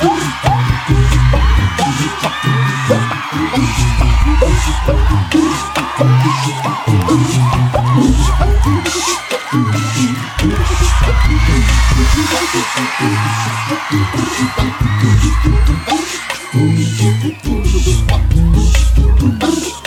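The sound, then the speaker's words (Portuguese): A crowd at a live concert screams and cheers loudly and continuously, answering the performer's call to scream, over pounding, thumping music with a steady heavy beat. “Agora gritem pra mim que eu tiro.”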